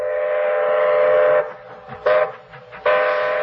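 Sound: train with whistle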